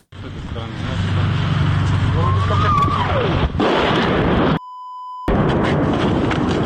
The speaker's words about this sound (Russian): Это журналисты агентства «Франс Пресс». Вчера днем они попали под обстрел Херсона российской армии.